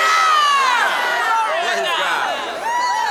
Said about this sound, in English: Somebody shouting here with me.